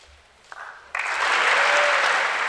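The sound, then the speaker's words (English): A crowd breaks into loud, sustained applause with cheering in a legislative chamber, the clapping swelling abruptly after a faint start and holding steady to the end; Republicans stood and cheered a line about defending Americans while Democrats stayed quiet and seated. “this was one of those lines where Republicans stood up and cheered, and Democrats essentially stayed pretty quiet and seated”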